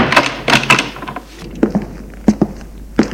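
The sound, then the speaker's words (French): A door being closed: a burst of bright, rattling clatter, then a few short wooden knocks and thuds spaced apart. No one speaks. “il referme la porte.”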